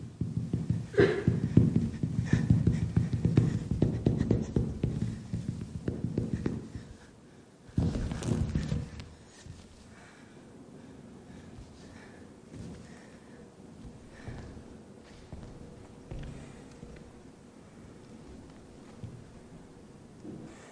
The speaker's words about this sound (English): So I haven't used any sound in this piece. You're meant to just feel the bodies and the sound of the feet. And I find that sound actually quite musical. The presence of the body and the breathing.